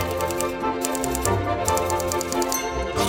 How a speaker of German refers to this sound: Das Klappern seiner Schreibmaschine war wohl das einzig angenehme Geräusch in diesem kalten Büro.